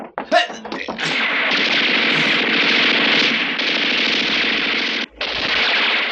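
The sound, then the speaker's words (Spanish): In the Calimán radio drama, three police officers rush toward a door and fire their guns: several sharp gunshots crack out, then merge into a loud, sustained roar of rapid gunfire that pauses briefly before resuming. Shouting voices blend into the din. “Se precipitan furiosos hacia la puerta y disparan sus armas.”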